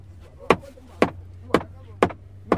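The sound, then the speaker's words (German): Fishermen knock rhythmically on their boat to drive fish into their nets: five sharp wooden knocks at a steady, even pace about half a second apart, each a crisp percussive thud over a low, constant hum, fairly loud. “Wenn das Netz gut befestigt ist, beginnen die Fischer mit rhythmischen Bewegungen auf das Boot zu klopfen.”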